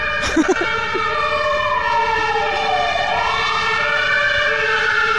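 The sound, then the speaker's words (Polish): A loud emergency service siren in Poznań wails continuously, its pitch sweeping slowly down and then back up in a long glide, with a brief burst of other noise at the start. “Zawsze się zastanawiałem, dlaczego sygnały różnych służb w Poznaniu muszą być aż tak głośne.”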